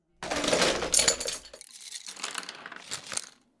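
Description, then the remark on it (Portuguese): Pencils tumble and clatter down stairs in a dense rattling burst of light wooden clicks, then scattered, uneven taps and skitters that trail off after a few seconds. No one speaks. “Os lápis rolaram pela escada e foram batendo nos degraus.”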